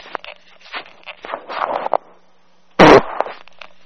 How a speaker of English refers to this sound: I farted on the phone. That is my recipe for sushi.